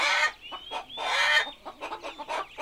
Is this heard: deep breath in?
no